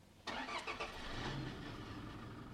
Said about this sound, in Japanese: ちょっと今私は運転席のあたりに来てるんですが、いいですね、ドアもやっぱりちょっと重厚な感じで、ちょっとエンジンかけてみていいですか？